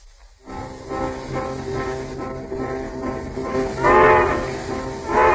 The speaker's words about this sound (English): We now find her on the world's fastest westbound train, rapidly approaching the capital of filmdom.